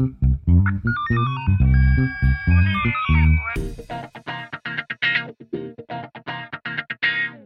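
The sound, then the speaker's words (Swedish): A melodic, electronic ringing tone of an outgoing phone call to a colleague sounds loudly for about three seconds, then a voice starts talking, slightly thin as if heard over a phone line. “Jag ringde faktiskt upp en kollega till mig.”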